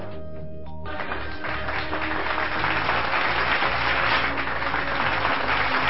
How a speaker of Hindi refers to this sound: का जोरदार तालियों के साथ स्वागत कीजिएगा।